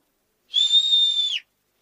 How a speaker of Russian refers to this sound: Там, ой, на дереве кто-то огромный и свистит.